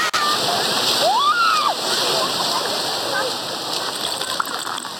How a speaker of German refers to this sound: Wer würde jetzt nicht gerne am Strand liegen, den Wellen lauschen und einen leckeren Cocktail schlürfen?